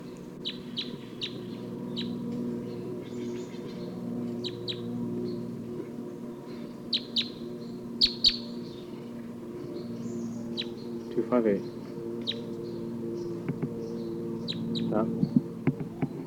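A wild bird, numbered 258, calls repeatedly with short, sharp, high-pitched chirps at irregular intervals, set against a steady low droning hum that runs through the whole recording.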